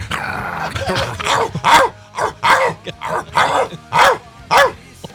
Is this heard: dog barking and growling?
yes